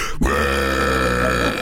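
A single loud, prolonged, deliberate burp erupts after a brief pause and rumbles on steadily for over a second, unmasked, with no talking over it.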